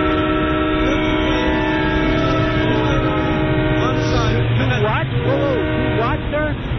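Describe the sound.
Loud, busy train station ambience with a steady, droning horn-like tone running throughout, while voices talk over the noise near the end.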